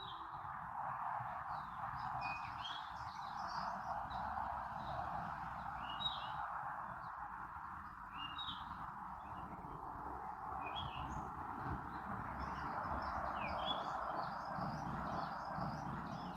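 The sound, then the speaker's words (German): Scattered bird chirps and short song phrases ring out over a steady outdoor hum, repeating irregularly throughout, with no one speaking; birds singing in nature in South Africa. “Vielleicht hörst du die wundervollen Vögel im Hintergrund.”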